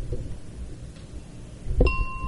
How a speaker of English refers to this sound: And as you can see, and just breathe and focus on the color and the sound of the wind chimes so that we can use our technology to practice meditation.